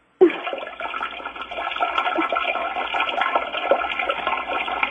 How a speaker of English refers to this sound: What are you doing, sir? He's flushing the toilet. Sir, what are you doing?